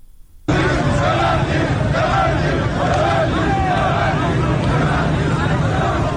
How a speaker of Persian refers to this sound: ویدیوهای منتشر شده از این تجمع در شبکه‌های اجتماعی نشان می‌دهد که گروهی از کسبه و مردم در خیابان با سر دادن شعارهای تحت عنوان ببندید ببندید از صاحبان کسب و کار خواستند که به تجمع اعتراضی آنان بپیوندند.